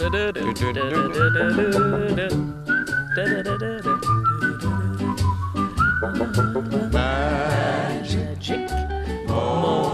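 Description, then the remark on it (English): Someone whistles a lively, lilting melody, clear and steady over about ten seconds, with a rhythmic accompaniment underneath and no talking. “I can whistle Irish, orchestral, classical, pop, anything once I know the melody.”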